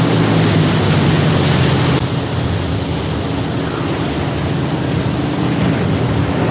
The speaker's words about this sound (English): The boat comes to a stop beside the two stranded frogmen.